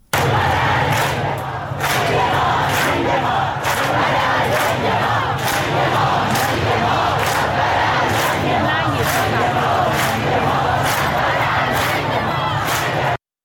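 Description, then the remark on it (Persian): A large crowd on Valiasr Street in Tehran chants the protest slogan "death to the dictator" in unison, loud and steady, with a repeating rhythmic beat roughly every half second across the whole stretch. “در خیابان ولیعصر تهران شعار مرگ بر دیکتاتور داده می شد.”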